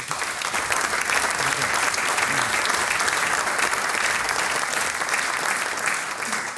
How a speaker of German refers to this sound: Das ist einmal dein Applaus.